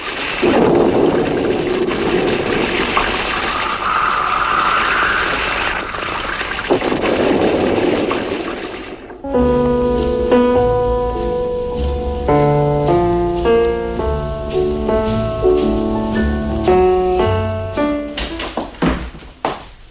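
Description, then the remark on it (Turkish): Steady, heavy rain hisses loudly for several seconds, a dense rushing wash of storm noise that cuts off abruptly and gives way to music. “Fırtınadan vapuru işlemiyormuş.”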